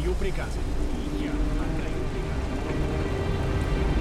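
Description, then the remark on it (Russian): A storm with heavy rain at sea near Brazil, where sailing ships are caught in poor visibility, lashes down in a steady, dense roar, backed by a deep low rumble of wind and sea that stays loud and unbroken throughout. “Недалеко от Бразилии корабли попали в шторм, и в условиях плохой видимости Иван Федорович потерял Неву из вида.”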